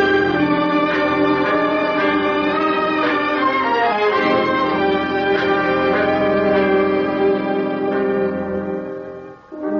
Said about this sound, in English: As the bell of San Lorenzo proclaims the curfew hour, I call out to you, Ave, Duce, Ave.